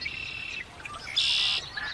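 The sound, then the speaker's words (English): A dense chorus of many marsh birds, including marsh wren, common yellowthroat and red-winged blackbird, singing at once, overlapping buzzy trills and high chirps in steady layered waves, full, with no voices. “And again with everybody.”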